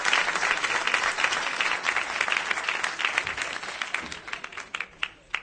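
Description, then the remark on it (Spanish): An audience claps steadily in a dense wash of applause, many hands blending into a continuous crackling roar that thins into scattered individual claps near the end. No one speaks. “Te mando un besito y un aplauso desde Benicarlo.”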